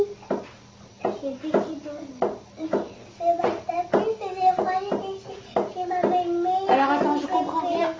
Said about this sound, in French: Balancer sur la chaise parce que sinon j'entends que le bruit de la chaise.